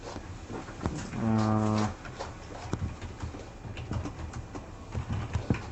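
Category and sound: animal, goats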